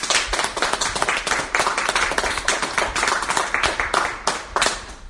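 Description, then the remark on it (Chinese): An audience claps together steadily for several seconds to thank those who gave testimonies, a dense, bright patter of many hands with a rough, pulsing rhythm and no voices on top. “我们再一次，不论你在哪里，我们鼓掌，谢谢今天每一个见证人美好的见证。”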